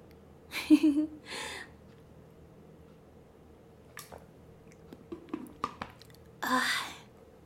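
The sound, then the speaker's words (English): Someone drinks water: a couple of soft, wet gulps, then a pause with scattered small mouth clicks and swallows, ending in a breathy exhale. The sounds are fairly quiet, and no one speaks. “I'm just gonna drink some water.”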